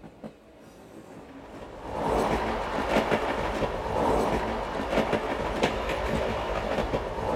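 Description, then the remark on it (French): A fast express train at full steam rumbles and clatters along the rails, growing louder after the first couple of seconds into a steady, dense roar with repeated rhythmic clacks of wheels over track joints. “Et l'Europe tout entière, aperçue au coupe-vent d'un express à toute vapeur, n'est pas plus riche que ma vie, ma pauvre vie.”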